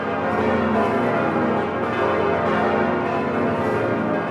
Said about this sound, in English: Also spared, the cathedral's 10 bells, which ring to mark momentous events.